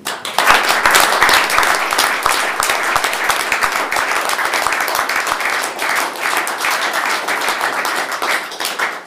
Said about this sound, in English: Would you stand up so we can give you a round of applause, please?